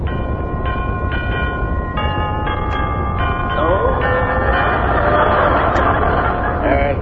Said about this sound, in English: Let's ring the doorbell.